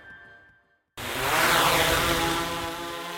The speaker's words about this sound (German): Meistens bringen wir dieses Geräusch mehrerer schnell drehender Propeller eines Multikopters in Verbindung mit Drohnen.